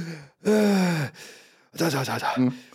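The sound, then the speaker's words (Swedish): A person imitates the deep, heavy breathing of someone who has climbed into a car and sat down in the seat: a short gasp, then a long, loud, groaning exhale, a quieter breathy pause, and another voiced, puffing breath, like needing two or three deep breaths before speaking. “det är så typiskt, det är tjocka kvinnor som kliver upp i bilar och så sätter de sig i sätet och måste ta 2-3 djupa andetag innan de kan börja prata och liksom hämta sig.”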